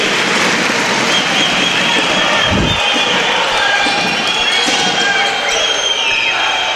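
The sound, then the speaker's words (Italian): A basketball thumps on a hardwood court during a game as the ball is dribbled in a drop, with one heavy bounce standing out amid the steady roar of an arena crowd and faint high sneaker squeaks. “Rossato, palla passo per Pini, palleggio in drop, corto l'appoggio, si vola a rimbalzo, l'ultimo tocco di Rivers, il tap in.”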